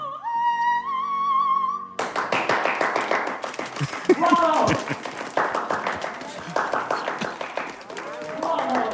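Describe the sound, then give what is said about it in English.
After a brief musical sting, one man claps rapidly and relentlessly, sharp claps in an uneven, frantic rhythm that keeps going, with voices calling out over it. “But on a positive note, there was a moment where a guy clapped uncontrollably.”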